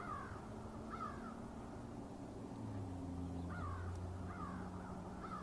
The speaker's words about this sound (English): We can hear some birds, of course.